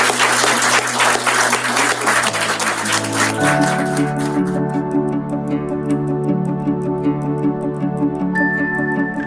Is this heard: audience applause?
yes